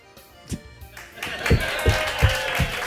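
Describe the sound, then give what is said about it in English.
A crowd noise swells into a steady roar of cheering and applause, with a regular series of deep thumps, about three per second, beating underneath it. “Look, they're cheering.”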